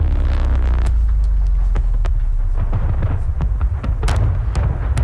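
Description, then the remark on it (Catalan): A loud explosion sound effect roars with deep, sustained rumbling, punctuated by sharp crackling bursts near the start and a cluster of cracks toward the end. It is a film explosion, not a car blowing up. No one speaks. “Això és una explosió. És una explosió d'un James Bond. No és el seu cotxe.”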